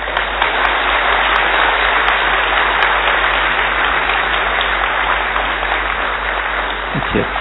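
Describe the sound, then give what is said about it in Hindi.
A large audience claps steadily and loudly, a dense wash of applause that holds for several seconds without pause. “ताली बजाना तो आता है ना, क्यों भी भूल गए।”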